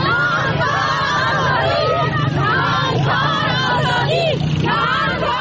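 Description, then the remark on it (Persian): A crowd of protesting women in Kabul, Afghanistan, chanting in loud, rhythmic unison a slogan that protesting women there have used for a year, their high voices rising and falling over a steady background rumble and scattered shouts. “شعاری که از یک سال بدین سو زنان معترض در کابل آن را سر می دهند.”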